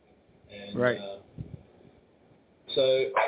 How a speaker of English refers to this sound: Hang on, my dog is yelling at me.